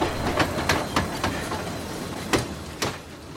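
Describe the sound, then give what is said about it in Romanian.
Train wagons rolling on wide-gauge rails: a steady low rumble punctuated by about six sharp, uneven clacks of wheels over track joints, with no voices. The wagons are very large, long and wide sleeping cars called 'Fulman', each holding over 100 people in two rows of beds. “Or fi ele lungi și late, dar merg de parcă stau.”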